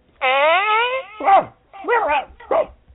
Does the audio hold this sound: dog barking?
yes